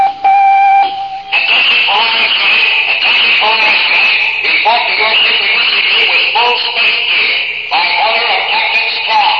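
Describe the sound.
A dormitory intercom on the Space Academy campus crackles on with a brief steady electronic buzz tone, then a thin, tinny, band-limited voice talks over a hissing line for several seconds.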